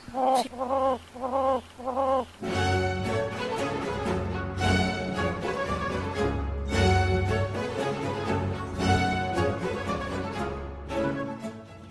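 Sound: hen clucking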